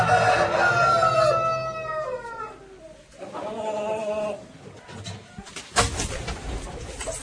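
A rooster crows, a long strained call that drops off at the end, followed by a second, softer crow amid outdoor background noise.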